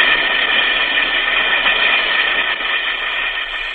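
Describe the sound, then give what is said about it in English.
An Alka-Seltzer tablet fizzes in water, a loud, steady crackling hiss of bubbles that holds without a break and eases slightly toward the end. No voices are heard. “Listen to it fizz.”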